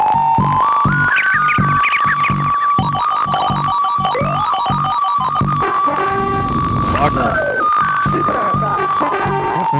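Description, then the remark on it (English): Frog video game sound effects: a loud, steady electronic tone held throughout, overlaid with chirpy beeps, rising blips and a burst of harsh noise, forming a busy, cluttered cacophony. “Here's some sound effects from the frog game.”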